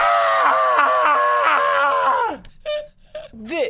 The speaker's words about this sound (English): you can scream now.